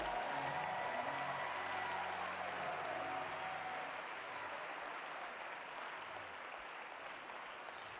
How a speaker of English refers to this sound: Everybody who got blessed by the word, clap your hands.